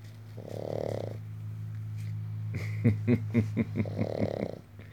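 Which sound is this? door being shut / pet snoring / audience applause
pet snoring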